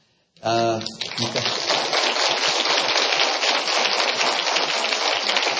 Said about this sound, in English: I'm 49 years old today. You can just, everybody can clap for me if you want to.